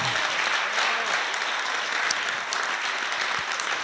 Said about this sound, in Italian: Beh, potete fare un applauso, lo so che siete stanchi, ma...